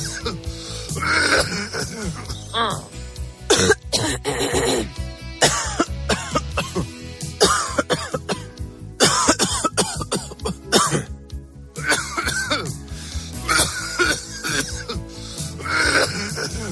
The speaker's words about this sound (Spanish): Y nada, y no termina de arrancarlo. Ahí el pollo está ahí bien, bien agarrado y no hay manera de sacarlo. Y claro, no paras de toser.